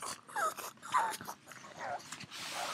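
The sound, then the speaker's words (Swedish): A pet pug makes a string of snorting, pig-like grunts with short whiny squeaks in the background, about four bursts in under three seconds, fairly faint over a soft background hiss. “Jag hör, det är min mops som håller på grymt där i bakgrunden om han hörs lite. Han har lite grisljud.”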